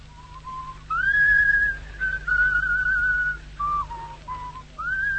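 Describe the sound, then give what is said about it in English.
A person whistles a tune alone, clear sustained notes shifting between pitches with short gaps, moderately loud, over a low steady background hum. “Hey, what do you want to whistle that a tune for?”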